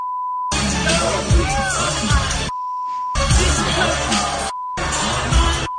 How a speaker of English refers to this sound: I mean, it loses some of its offensiveness when we have to beep everything, but it was not beeped on stage.